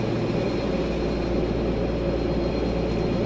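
A steady, low-pitched engine drone fills an airplane cabin, constant and unbroken, with a dense rumble in the low end and a faint hiss above, no voices present.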